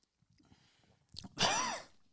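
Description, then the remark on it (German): A sudden harsh cough bursts out after a couple of short, sputtering breaths, loud and raspy with a strained, wheezy edge, from someone who has swallowed a drink of apricot schnapps (Marille) the wrong way. “Huch, das war kein Huster, weil es so schlecht war oder so zisselig oder zisselmig, sondern weil ich mich ein bisschen verschluckt habe einfach.”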